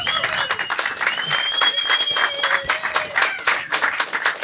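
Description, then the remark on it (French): Steady audience applause, a dense patter of many hands clapping throughout, with a shrill, sustained whistle riding over the crowd for much of it. “On peut l'applaudir encore parce que ça joue, vous étiez tous dedans, je l'ai vu.”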